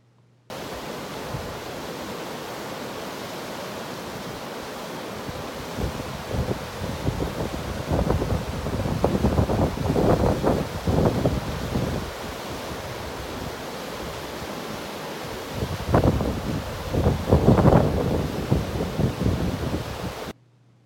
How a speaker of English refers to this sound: So I wanted to share just a little piece of that with you with this small video that I took of a waterfall that we were hiking near and camping nearby.